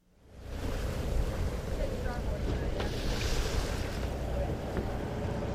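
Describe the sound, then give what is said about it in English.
A fishing boat runs steadily on open water in Bristol Bay, Alaska, during a protest by fishing crews, its low engine rumble blending with wind buffeting the microphone and the wash of waves, loud and continuous after a quick fade-in. “reporters were on the water, moving between protesting crews who are calling on Alaskan processors to reconsider their historic low base price and bring more price transparency to the fishery.”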